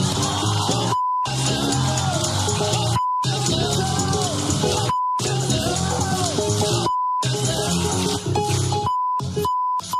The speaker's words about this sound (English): All right, and the beeps continue there.